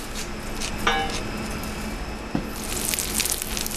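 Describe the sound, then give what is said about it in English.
Water pours and splashes steadily over a rice cake in a container to soak it, with a couple of brief light clinks, growing slightly brighter and busier toward the end. No one speaks. “This is the rice cake. Soak in the water a little bit.”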